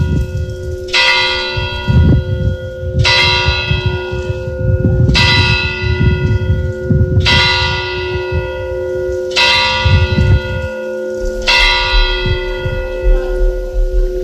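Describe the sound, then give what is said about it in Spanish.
A church bell tolls loudly and steadily at midnight, six resonant strikes about two seconds apart, each ringing out over a lingering metallic hum with a low rumble underneath; the bell of a church on a riverbank in Huesca, Spain. “Tañe la campana de la iglesia de la Res, a orillas del río Urín, en Huesca.”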